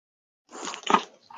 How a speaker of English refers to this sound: I am right now wrestling with the dog in my arms. She's like, Daddy, it's been too long. It's been too long.